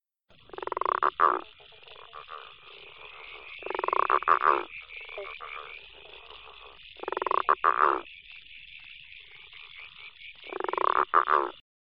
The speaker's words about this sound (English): Now, the frog you just listened to there was the growling grass frog. Now, this species was once widespread in the region, but it's declined significantly, so much so that now it's a nationally threatened species. Now, it's a large green frog